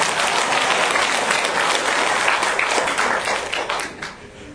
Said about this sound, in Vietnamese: Cái câu mình không có quên được là người ta nói là lăng hay nhờ tiếng pháo mà ca sĩ hát hay nhờ tiếng vỗ tay, mà ca sĩ mà muốn ca sĩ mà hát hay thì phải vỗ tay thì ca sĩ mới hát hay được, cho nên phải cho đồng vỗ tay nữa.